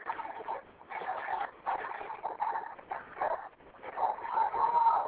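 dog barking and whimpering

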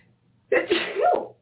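a person sneezing

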